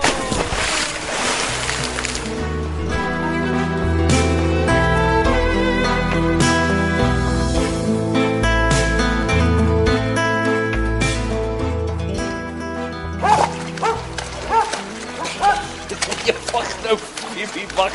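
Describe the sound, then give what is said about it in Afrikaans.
A Labrador dog splashes about in water, with broad sloshing bursts at the start and again toward the end over a steady, tonal musical background. “Ek weet Labradors is lief vir water, maar is nie nodig om my te probeer verdrink nie.”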